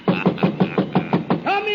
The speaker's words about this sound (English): In a moment now you'll hear me knock on Santa's door.